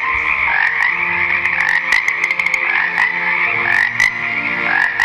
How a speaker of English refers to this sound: So God sent the second plague, a plague of frogs. Frogs were everywhere